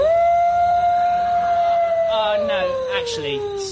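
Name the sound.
wolf howling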